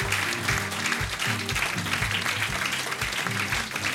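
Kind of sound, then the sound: crowd, audience applauding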